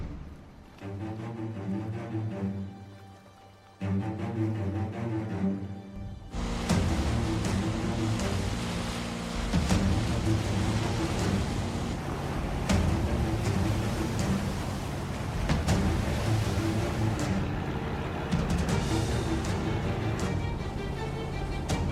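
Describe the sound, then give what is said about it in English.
A low engine drone runs through the first few seconds, then a loud, steady rush of churning water and surf takes over as a boat pushes through ocean waves in fog, heading toward Deer Isle, Maine. “I don't know who this boat captain is, but he must have something important to say if he's tracking us down on the water, fog and all.”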